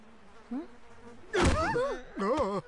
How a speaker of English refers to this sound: He sips his coffee while everyone stares at him. A fly buzzes past.